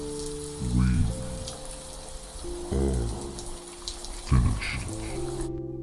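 rain falling

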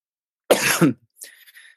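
man coughing

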